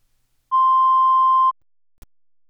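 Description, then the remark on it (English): A single steady, mid-pitched test tone from an audio test file, played to check bit-perfect playback, sounds loudly for about one second, then cuts off; moments later a brief faint click breaks the quiet. No one speaks. “You will hear two tones with 45 seconds between them.”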